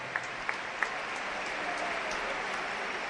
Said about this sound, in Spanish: Ahí viene Thierry. Aplausos para Thierry.